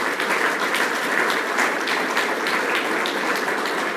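Steady, sustained applause from a crowd at a meeting, thanking Ricky, a dense wash of clapping at even loudness throughout with no voices rising above it.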